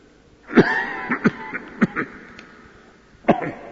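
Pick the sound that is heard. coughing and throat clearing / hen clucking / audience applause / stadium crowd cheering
coughing and throat clearing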